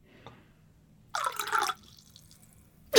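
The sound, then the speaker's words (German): Water dribbles out in one brief splashing burst, the last drops falling into a bathtub as it is filled, followed by near silence and a faint drip. No one speaks. “Nur die letzten Tropfen der Badewanne.”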